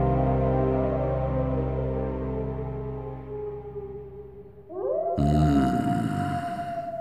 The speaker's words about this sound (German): Die Wölfe? Ja, die Kinder der Nacht. Was für eine Musik sie machen. Hören Sie.